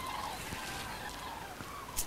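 A very large flock of cranes calling overhead on a sunny autumn day, rough creaking trumpet-like calls like badly oiled doors overlapping in a steady chorus with a few sharper cries standing out, no one talking.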